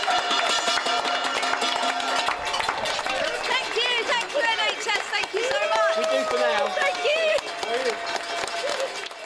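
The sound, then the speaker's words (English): A street crowd in Southwest London claps steadily and loudly on Thursday night at 8 p.m., applauding the National Health Service's nurses, doctors and staff, with rising whoops, cheers and shouting voices layered over the dense, continuous applause. “when the nation stood up and applauded our National Health Service.”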